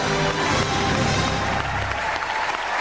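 A large crowd at The Point in Dublin cheers and applauds the winning act for the United Kingdom loudly and continuously, a dense wash of clapping and roaring voices that holds steady throughout with no pauses.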